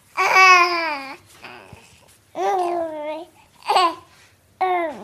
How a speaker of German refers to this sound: Ja, Baby hat hörbar gute Laune und die würden wir bei allen Beteiligten auch gerne erhalten.